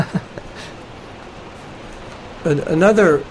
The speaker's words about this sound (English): You hear that rain in the background? You can imagine we're in the Amazon jungle.